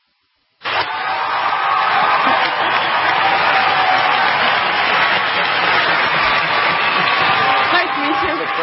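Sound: crowd applauding and cheering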